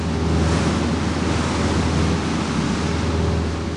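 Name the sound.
strong howling wind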